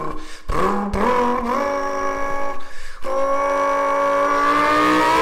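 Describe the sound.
A man imitates a revving car engine with his mouth, rising through gear shifts with sharp breaks, then holding a strained, climbing whine. The vocal engine noise is loud, with no speech.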